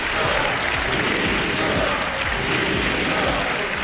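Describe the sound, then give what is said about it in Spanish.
Dense, continuous applause from the PSOE benches in the Senate (Cámara Alta) chamber, mixed with shouts, steady and loud throughout, with a faint murmur of raised voices blended into the clapping. “Gritos que se han ido mezclando también con los aplausos desde la bancada del PSOE y con una preocupación insistente en las filas populares.”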